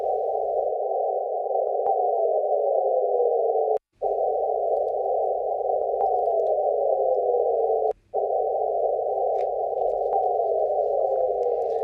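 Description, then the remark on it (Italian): Fast radio bursts translated into frequencies audible to the human ear by an astronomer at the Perimeter Institute in Canada: a steady, loud midrange hiss broken by two brief gaps, with a faint tone gliding downward in pitch in each of the three stretches. No voices. “E questo era il suono, diciamo, la trasformazione nelle frequenze udibili all'orecchio umano di questi lampi radio veloci.”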